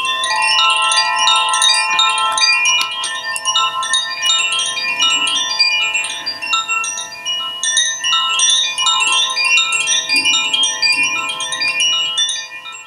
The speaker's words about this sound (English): And then people in the West are beginning to rediscover sacred instruments, and this particular one, this wind chime, coming from France originally.